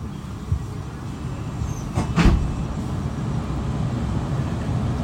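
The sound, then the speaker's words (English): Steady low rumble inside a moving passenger train from Upway bound for London Waterloo, next station Dorchester South; a constant drone of wheels and carriage with one brief louder clatter partway through. No one speaks. “I'm back on the train now, heading for London.”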